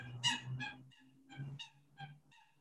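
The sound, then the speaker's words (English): A turkey gobbles in a rapid, warbling burst of several throaty calls, moderately loud, with no talking over it. “Sorry, that was a bird.”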